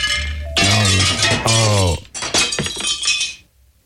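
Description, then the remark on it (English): A loud glass-breaking sound effect of a glass being broken, shattering in two drawn-out bursts, a bright crash full of ringing, tinkling shards, followed by a second wave of scattering debris that fades to quiet. “The sound effect was slightly over the top, but I broke the glass, Captain.”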